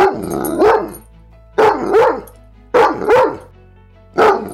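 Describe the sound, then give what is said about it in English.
A large pet dog barks loudly inside a house in four deep, booming bursts, some doubled into quick pairs, with short quiet gaps between them and no talking. “Her name is Lucy, and it's like living with a very lovable horse in the house. One that barks”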